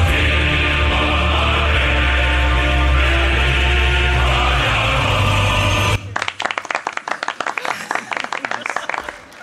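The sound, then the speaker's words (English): A steady, dense wash of crowd noise gives way to a burst of lively audience applause, with many hands clapping loud through the final few seconds. “It's so bad that is going to cause the audience to applaud.”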